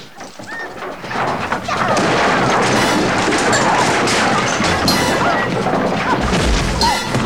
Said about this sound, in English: one girl throws the other off a staircase, smashing the banister.